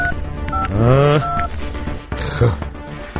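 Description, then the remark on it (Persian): Several short, steady electronic keypad tones sound in sequence as a phone number is dialed, with a brief voiced sound overlapping the tones partway through. “بذار یه زنگ بزنم بهش ببینم چی شد.”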